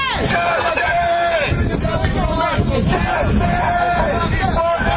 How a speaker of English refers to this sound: And now they're going outside. It's daytime. And the taunts and angry shouts continue. But again, no violent action.